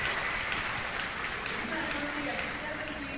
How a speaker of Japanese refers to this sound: 素晴らしい素晴らしい賛美ですね。もう一度拍手をお願いします。